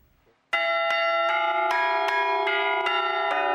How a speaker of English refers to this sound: On this Easter Sunday morning, bells are ringing for our Seth Doan.